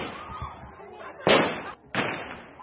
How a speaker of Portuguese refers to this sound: De seguida, agentes da polícia dispararam para o ar para dispersar a crescente multidão antes de colocar Stella Nyanzi num carro e levá-la de volta à prisão.